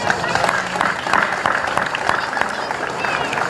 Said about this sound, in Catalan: Aquí demano un fort aplaudiment.